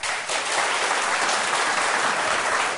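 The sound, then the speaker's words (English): A crowd breaks into steady applause, a dense wash of clapping hands that stays evenly loud for a few seconds with no voices over it, the audience applauding to vote that a study of stars calling dark matter into question is the fiction. “And if you think a study of stars calls dark matter into question, is the fiction, applaud.”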